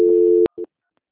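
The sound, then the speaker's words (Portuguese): A steady electronic telephone tone hums for about half a second, cuts off with a click, then a brief second beep follows before silence, as a phone call is transferred to a quality department. “Obrigada pelas confirmações e, neste momento, eu vou encaminhar a ligação para a central de qualidade para prosseguirmos com as confirmações.”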